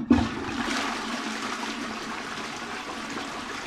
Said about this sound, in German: Jedes Mal, wenn wir die Wasserspülung betätigen, im Glauben, eine hygienische Handlung zu vollziehen, verstoßen wir gegen kosmische Gesetze. Denn in Wahrheit ist es eine gottlose Tat, eine frevelhafte Geste des Todes.